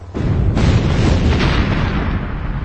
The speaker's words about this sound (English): They no sooner did, when a series of concussive detonations shook the street. But the blasts had been shaped to blow at Salvo's position, rather than at the Jedi.